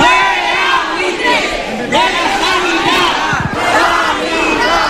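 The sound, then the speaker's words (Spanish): Dozens of protesters gathered in front of the headquarters of Rivera Salud, the company managing Torrejón hospital, chant the slogan 'fuera buitres de la sanidad' in unison, many voices shouting together in a steady rhythmic cadence that rises and falls in repeated phrases. “Con este grito que escuchan, fuera buitres de la sanidad,”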